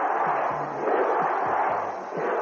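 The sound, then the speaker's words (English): A packed capacity arena crowd roars steadily for Sergeant Slaughter, a dense wall of cheering with rhythmic chants of "USA!" pulsing through it, loud and continuous without a break. “And this capacity crowd, listen to him.”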